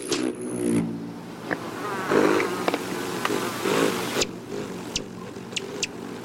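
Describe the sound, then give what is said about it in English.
A rufous hummingbird's deep wing buzz hums as it arrives, swelling and fading as it hovers, with a few sharp high ticks toward the end and no voices. “The deep buzz of their arrival marks the start of summer.”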